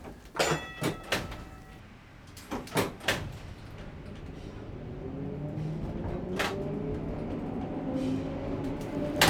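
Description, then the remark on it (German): A few sharp door thumps and a sliding door rolling shut on the Märli-Tram, then the tram's motor whines up and rises in pitch as Sammy Klaus starts it from the driver's cab and it begins moving off out of the depot, a steady low rumble continuing. “Der Sammy Klaus steht in die Führerkabine und startet das Tram.”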